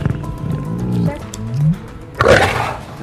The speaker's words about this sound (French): Ce rugissement n'est pas celui d'un lion dans la savane ou dans un zoo. Il provient d'une petite cage au fond d'un jardin niché à l'arrière d'une maison familiale dans un quartier congestionné de la banlieue de Lahore, dans l'est du Pakistan.